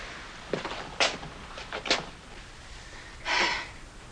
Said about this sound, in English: All the drawers stick.